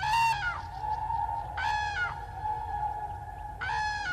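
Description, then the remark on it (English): Common crane trumpeting: three loud, resonant, rolling calls with a brassy harmonic ring, spaced about a second and a half apart against a steady low background hum. “The loud, resonant, trumpeting call of the common crane.”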